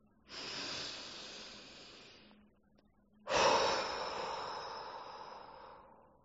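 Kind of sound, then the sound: human body sound, deep inhale then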